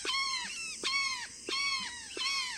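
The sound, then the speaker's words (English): A flock of brown jays in the Mexican countryside gives four loud, raucous screaming calls in a steady rhythm, each a harsh, harmonic-rich cry starting with a sharp click and trailing slightly downward. No one speaks. “We're walking in the Mexican countryside when we hear a chorus of raucous calls.”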